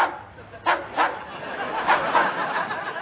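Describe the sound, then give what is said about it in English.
A dog in a lab barks a few times in quick, sharp bursts, over a muffled background that sounds like it's coming through a phone line. “Is that a dog? Yes. In the lab? Yes.”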